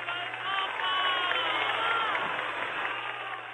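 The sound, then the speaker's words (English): A large crowd of campesinos claps and cheers steadily throughout after a speech by the Pope, a dense wash of applause with scattered shouts of "Viva el Papa" rising above it, fairly loud and continuous without a break. “And was accompanied by volleys of clapping and shouts of Viva el Papa.”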